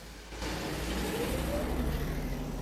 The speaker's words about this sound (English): They hear a car coming, then the glare of headlights floods the cab. The car stops at the entrance, reverses into a three-point turn, then drives off again.